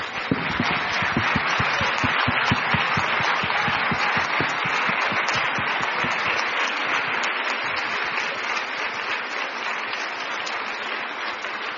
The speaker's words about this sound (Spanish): Déjenme darles un aplauso.